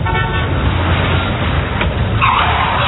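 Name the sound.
car speeding past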